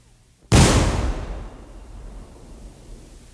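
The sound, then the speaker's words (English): A single loud cannon shot booms out, then trails off into a long, fading tinny ringing that lingers for a few seconds, caused by the vibrations of a huge oil tank several yards from the microphone. No voices. “Still that tinny sound. What could it be?”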